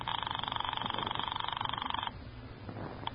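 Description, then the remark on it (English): A telephone upstairs rings in one sustained, rapidly trilling burst for about two seconds, then cuts off, leaving a low steady hum in the background. No one speaks. “You won't answer. It's ringing. I can hear it upstairs.”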